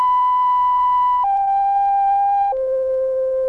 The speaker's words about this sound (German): Dann nahm ich ein Blatt Papier und begann zu komponieren. Anschließend setzte ich die Telefonsummtöne in die richtige Reihenfolge.